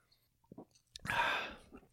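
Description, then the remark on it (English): A quiet sip and gulp of beer: a couple of soft wet swallowing clicks, then a louder breathy exhale of satisfaction lasting about half a second. “That was one gulp.”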